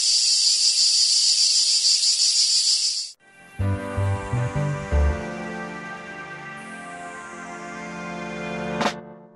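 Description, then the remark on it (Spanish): A cicada's loud, shrill, continuous buzzing fills the first three seconds on its own, then cuts off abruptly as music with deep bass notes begins, in the jingle of the show El cant de la Chicharra on UPV Radio. “El cant de la Chicharra, música i desfici en UPV Radio.”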